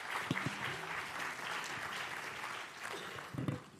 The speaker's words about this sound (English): And so I've got my good friend Josh to come on. So give Josh a round of applause while I grab a stool.